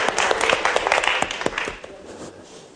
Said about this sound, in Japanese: And we have some internet listeners over here. で今日はあのインターネットで聞いておられるリスナーの方が来ています。 香川 から。 So let's give them a hand for coming. 拍手で迎えましょう。